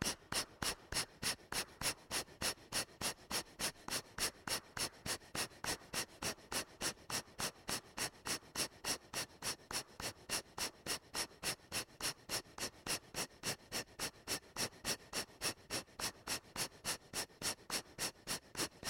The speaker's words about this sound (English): Okay, let's begin. Take a deep breath, everyone. Exhale, breathing. Begin. 1, 2, 3, 4.